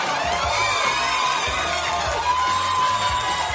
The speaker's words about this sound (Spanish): Comienzos, actualidad, anécdotas y más desde ahora. Fuerte el aplauso para...